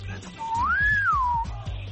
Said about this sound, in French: Tu as entendu le sifflet, hein? Bien sûr. Au moins la philosophie du coup de sifflet.